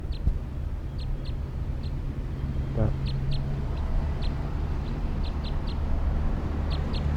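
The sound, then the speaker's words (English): A lone wild orange male bird gives a series of short, high-pitched chirps in irregular bursts, fairly soft, over a steady background hiss and low rumble, recorded at 1:09 p.m. “Wild orange male, lone bird.”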